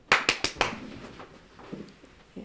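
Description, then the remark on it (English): Four sharp, loud hand claps in quick succession by a grandmother simulating gunfire during a family safety drill for children, then fading into faint, low rustling and shuffling. “Then their grandmother claps her hands to simulate the sound of gunfire.”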